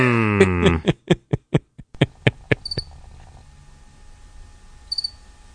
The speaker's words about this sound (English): Maybe I should play the crickets right now.